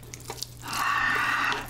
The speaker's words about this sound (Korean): 자, 이번엔 불닭볶음면. 면수를 조금 넣고 제가 좀 촉촉하게 먹도록 하겠습니다. 면수 이 정도?